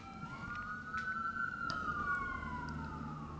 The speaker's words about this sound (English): So I decided to, oh, we got some sirens in the background here.